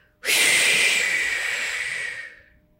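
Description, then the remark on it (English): A single long, airy breath drawn in with the abdomen expanding, as part of a 4-7-8 calming breathing exercise, starting abruptly and lasting over two seconds before tapering off into quiet. No voices are heard. “So you want to breathe in, expand with expansion of the abdomen and breathing out through your mouth.”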